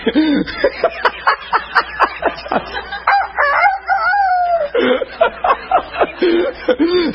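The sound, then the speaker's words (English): An old rooster crows loudly in a barnyard, with a long drawn-out call in the middle, surrounded by rapid, choppy clucking bursts in an uneven rhythm. “Do you ever go to a barnyard and the old rooster meet you on the lane?”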